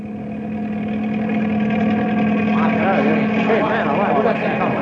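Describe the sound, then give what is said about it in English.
A helicopter coming into a mesa: its steady, low mechanical drone builds gradually in loudness, with a strong humming tone underneath, while voices talk over it in the second half. “Hey, there's a helicopter coming into the mesa.”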